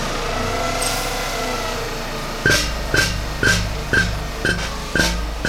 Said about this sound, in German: Ja, das ist ein Bohrturm, den kann man aufklappen. Und mit dieser Maschine kann man Löcher bohren für Grundwassermessstellen. So, dann werfen wir mal den Bohrer an.